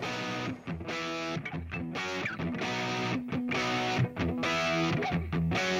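A loud, driving punk rock song with heavily distorted electric guitars, pounding drums and a steady fast rhythm, dense and continuous throughout.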